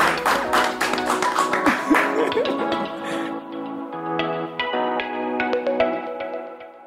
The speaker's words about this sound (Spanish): ¡Aplausos, Diego!